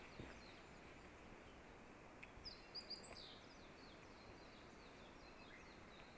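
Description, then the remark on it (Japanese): Faint, rapid high-pitched chirping trills of a Japanese white-eye singing, small bursts of fine 'chipi-chipi' twittering notes over a steady hiss of outdoor ambience, busiest in the middle. “あ、今メジロがさえずり始めました。あの細かくチピチピチピっていうのがあります。”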